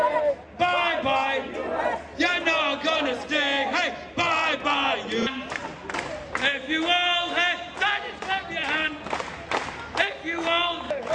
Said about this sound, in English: Let them hear something they don't want to hear. Shout Takbir.